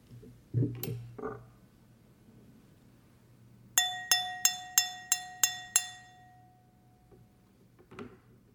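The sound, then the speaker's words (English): At a dinner gathering in a host's home, a fork taps a glass seven times in a quick, even rhythm, each strike a bright, high ringing clink that lingers, over a low background murmur with a few soft clatters before and after. “So I took my fork.”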